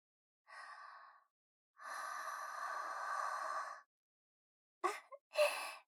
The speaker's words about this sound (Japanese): このねっとりした生あったかい吐息、もっと浴びせてあげます。